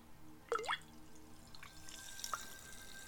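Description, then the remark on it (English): Quiet fizzing of Pellegrino sparkling water, with a bright bubbling pour-like burst near the start, then a soft continuous hiss and a few scattered pops and drips. “Oh my god, maybe I get like 2 million hits on YouTube now because I have the bubbles fizzing and stuff.”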